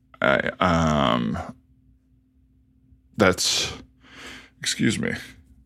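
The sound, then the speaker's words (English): A person lets out a loud, drawn-out burp into the microphone, followed by a couple of breathy, voiced grunts and exhales after a short pause. “I'm burping here into the mics, but you know, we've all got to do it sometimes.”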